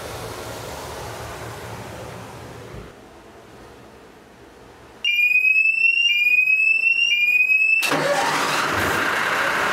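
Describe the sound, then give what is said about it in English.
A steady rumble fades, then a high, stepped electronic warning tone sounds for a few seconds before the engine is turned on and roars to life loudly. “But I'm going to open up the door now and turn the engine on.”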